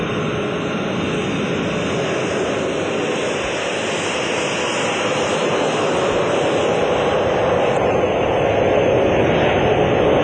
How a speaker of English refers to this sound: With eight powerful jet engines, the B-52 could fly at speeds of over 600 miles an hour and pack a formidable array of weapons, including air-launched missiles and atomic and hydrogen bombs.